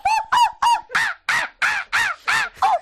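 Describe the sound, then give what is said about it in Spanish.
A person imitates a monkey with eight loud, harsh hooting calls in a quick, steady rhythm, with no other talking. “Yo sé hacer muy bien el mono.”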